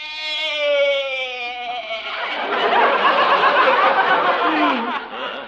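goat bleating

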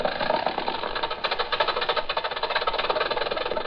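old-fashioned car engine running

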